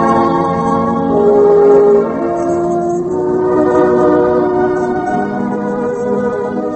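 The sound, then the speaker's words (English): A train rolls steadily along the rails through open fields with a constant rumbling roar and sustained droning, whistle-like tones layered on top, fairly loud, with no voices. “On the train going back, she looked across the silent fields to the west.”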